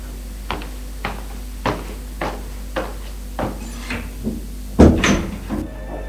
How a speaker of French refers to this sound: Elle va leur ouvrir la porte.